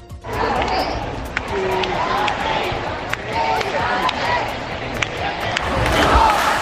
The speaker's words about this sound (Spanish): Con todo, los dirigentes del partido han salido a las puertas de Ferraz para unirse a esos miles de militantes al grito de Pedro, quédate.